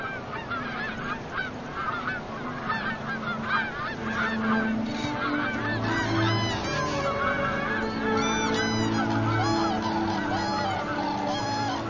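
A dense chorus of geese honking continuously, many overlapping calls from a large flock wintering at ephemeral waters, loud with a steady, clamorous texture and no speech.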